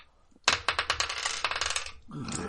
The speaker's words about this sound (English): I've rolled one double six and two double ones so far.